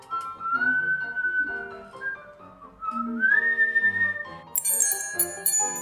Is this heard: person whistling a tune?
yes